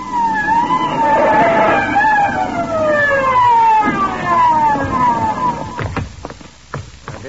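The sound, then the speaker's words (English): A police siren wails loudly in repeated downward-sliding sweeps as police arrive at a crime scene in a hurry, then cuts off and gives way to a few sharp thumps and rumbling vehicle noise at the end. “She runs screaming from the scene and brings the cops down in a hurry.”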